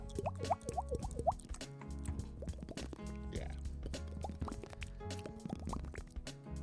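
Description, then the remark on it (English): A voice imitates dripping water with a quick series of bright, rising plinks and pops made by the mouth, repeating rhythmically over a low steady background. “When did you learn the water drip? Because that shit is out of control, dude.”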